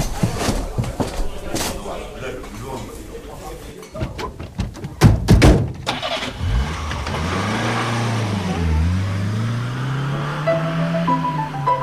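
A car parked in front of a bistro turns over and starts after a few door or handling clunks, then rises into a steady driving drone with pitch shifts as it accelerates, heard from inside the vehicle.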